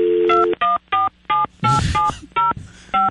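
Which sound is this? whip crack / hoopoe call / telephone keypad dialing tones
telephone keypad dialing tones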